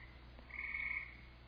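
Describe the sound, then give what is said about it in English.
A frog croaks in one sustained, buzzy trill lasting about half a second, clear, with a fainter drawn-out call lingering around it over a low background hum. No one speaks. “Frog tongue.”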